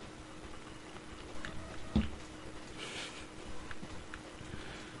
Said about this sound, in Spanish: Perdón, le di un trago aquí a mi bebida.